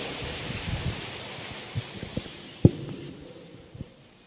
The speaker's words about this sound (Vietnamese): Mời quý vị dành tràng pháo tay để lắng nghe sự chia sẻ của Đại Đức Thiện Trí.